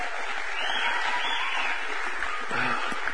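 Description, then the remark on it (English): Sustained audience applause for the band, a dense wash of many hands clapping at steady loudness for a few seconds, with faint voices mixed in toward the end. “Hey, y'all give the band another big round of applause.”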